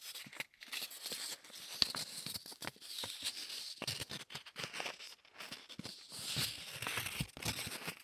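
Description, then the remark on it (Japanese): Sticky patting and peeling of packing tape dabbed against a knit sweater, a rapid irregular series of soft tacky pulls and crinkles continuing steadily throughout, with no talking. “というわけで今回お送りしたのは、ガムテープでセーターなんかをペタペタとする音でした。”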